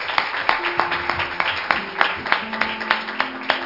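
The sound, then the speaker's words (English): An audience claps together in praise, a steady stream of sharp, overlapping hand claps with a loose rhythm, fairly loud, plus faint tonal hum and murmuring beneath. “Let's give them another hand clap of praise.”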